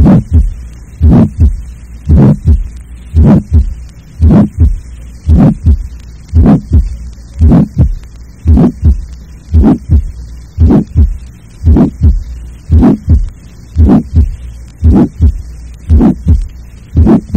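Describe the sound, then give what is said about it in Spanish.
A harsh heart murmur with its low frequencies filtered out: a steady run of rhythmic heartbeats, each a rough, buzzy burst, repeating about every second over a faint background hum, no speech. “Esto ya lo he demostrado antes, pero nuevamente volveré a mostrar lo que sucede con el timbre de un ruido áspero cuando se eliminan sus frecuencias más bajas.”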